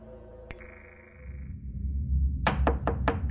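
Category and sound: household object, knocking on a door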